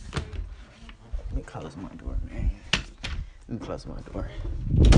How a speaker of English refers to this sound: Let me close my door.